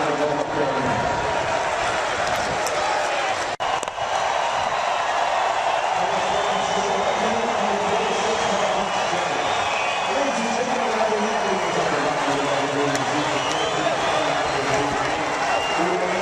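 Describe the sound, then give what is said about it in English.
A steady, dense roar of a stadium crowd fills the whole stretch, a constant wash of many voices with murmured chatter rising and falling, and no clear cheers or breaks. “Still hear the crowd.”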